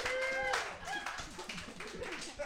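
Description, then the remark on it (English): Audience applause for the game's players fills the whole moment, a dense, steady patter of many hands clapping, with brief cheering voices and a whistle-like tone rising near the start. “Give it up for all of our players, right?”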